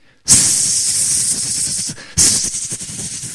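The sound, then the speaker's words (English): Two long, loud, sharp hisses, like a snake, the first lasting well over a second and the second starting after a brief pause, with a faint rapid flutter underneath. “But Sisupal, he was there, and it's described, he began hissing like a snake.”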